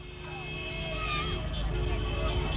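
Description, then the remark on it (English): Busy street traffic in Bissau, Guinea-Bissau, on New Year's Day: a steady engine rumble as cars whizz past the presidential palace, long sustained horn blasts layered over it, and faint voices, as supporters wave red and white scarves of candidate Umaro Sissoko Embalo. “In Bissau, cars whizzed past the presidential palace on New Year's Day, honking and waving the signature red and white scarf of candidate Umaro Sissoko Embalo.”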